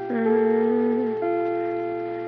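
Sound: school chime ringing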